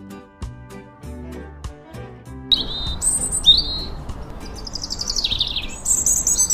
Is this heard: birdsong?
yes